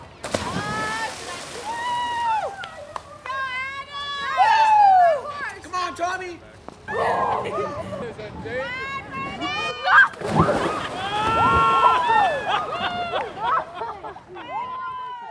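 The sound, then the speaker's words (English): Horses ridden into flowing Boulder Creek, wading and splashing with bursts of sloshing water as riders coax them in deeper, under a lively babble of overlapping adult and children's voices. “Many of the riders skillfully coaxed their horses into the flowing water, encouraging them to wade in deeper and deeper, until some of the kids were able to hold the saddle horn with one hand and let the horses pull them, floating behind”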